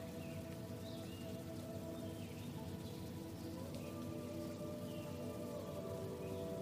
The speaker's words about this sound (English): You can hear water trickling from a stream nearby.